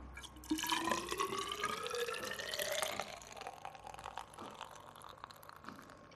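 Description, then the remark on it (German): Beer that has been brewing for about six days is poured into a glass measuring cylinder to measure its alcohol content. The steady, splashing stream rises in pitch as the cylinder fills, then trails off into soft drips and fizz. “Jetzt füllen wir wieder was rein von dem Bier in den Messzylinder.”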